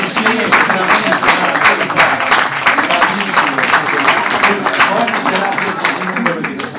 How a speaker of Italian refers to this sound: Facciamo un applauso al tecnico